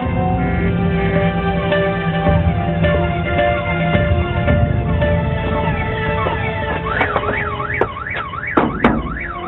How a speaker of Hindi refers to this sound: मेरी गाड़ी का सेफ्टी अलार्म बज रहा है।